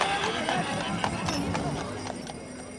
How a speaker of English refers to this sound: riding in a horse-drawn carriage through downtown Glendale.